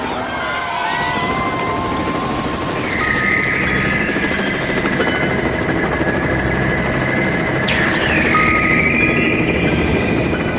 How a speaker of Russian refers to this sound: Вертолет на мгновение зависал над ними, и доносилось слабое постукивание. Потом вертолет летел дальше.